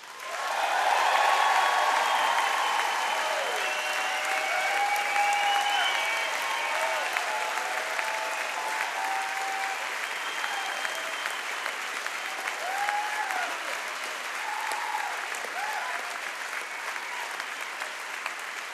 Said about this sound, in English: And I want to give him a great big old round of applause